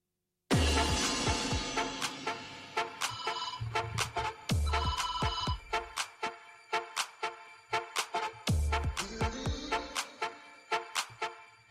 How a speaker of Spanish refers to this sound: Pues es lo que pasa trabajando desde casa, que de vez en cuando pues suena también el teléfono.